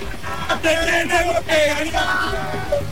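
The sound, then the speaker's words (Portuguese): A crowd of Argentine football fans shouts a rhythmic chant together, voices loud, rising and falling in repeated bursts over about three seconds. “Como é o grito?”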